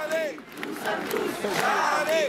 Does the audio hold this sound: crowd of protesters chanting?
yes